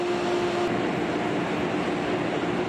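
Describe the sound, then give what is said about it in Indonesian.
A steady, continuous rumble of a train rolling along rails on a journey from New York City to Albany, with a droning hum and faint tonal whine throughout, even in loudness, no voices. “Thibaut Constant dari Prancis memfilmkan perjalanannya dari kota New York ke kota Albany melalui kanalnya di YouTube, Simply Railway.”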